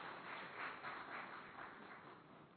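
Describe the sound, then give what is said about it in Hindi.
A crowd applauds steadily, many hands clapping in a dense, continuous wash that swells slightly midway, with no talking. “बोलो ना भाई, ताली बजाओ ना जरा अच्छी तरह से।”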